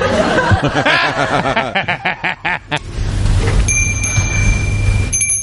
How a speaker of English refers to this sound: Aren't you going to ask me why I rang the bell? Why did you ring the bell? Why do you think I rang the bell?